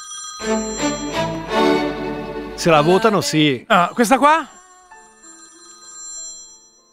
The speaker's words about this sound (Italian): sulla base del fatto che mi stanno chiamando al telefono